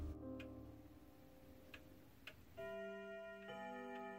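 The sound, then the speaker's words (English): A clock at Baker Street ticks in a few sharp, evenly faint clicks over a sustained tonal drone, which swells into a brighter, ringing chord partway through as the clock strikes midnight; no one speaks. “I had been alone at Baker Street for several hours before the clock struck midnight.”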